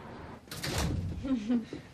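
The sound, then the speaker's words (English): A door is pushed shut with a solid thud and a brief sliding rumble, followed by a short voice sound just after. “Close the goddamn door.”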